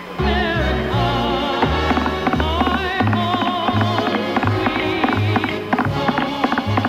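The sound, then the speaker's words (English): An instrumental tune played in basic 4-4 time with a steady, bouncing rhythm like a trotting horse: low bass notes alternate evenly beneath a busy, higher melody. The playing is loud and continuous, with no voices. “make it sound like it's a horse, you know, trotting.”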